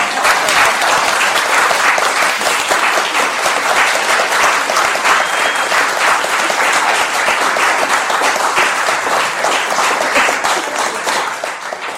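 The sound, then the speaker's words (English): A room full of people applauding steadily after a reading from a book of letters, a dense, loud wash of many hands clapping at once that holds for the whole stretch, fading slightly at the very end. “Can you applaud you?”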